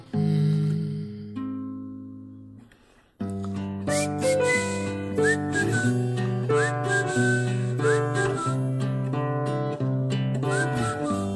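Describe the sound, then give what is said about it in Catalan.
A whistled melody with short upward-sliding notes rides over a full, sustained instrumental backing, after a brief quieter intro with a pause; steady and fairly loud, no talking. “De llibres rebutjats, tenim, com sempre, un xiulet.”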